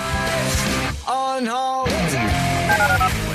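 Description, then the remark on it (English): Short telephone keypad dialing tones beep in a quick run near the end, over a loud, busy music jingle with a brief sung, bending melody. Part of a promo for the listener call-in line of The Usual Suspects on ESPN 97.5 radio. “Dial the phone.”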